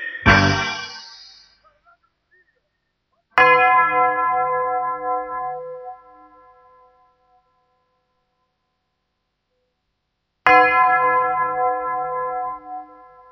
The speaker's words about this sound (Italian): Avete veduto, avete sentito, suonò la campana col gesto di un dito. Abbiamo veduto, abbiamo sentito, suonò le campane col gesto di un dito.